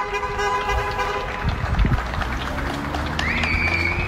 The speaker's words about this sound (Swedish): Och det applåderas även här. Så här lät till exempel på Lilla Essingen i Stockholm häromkvällen.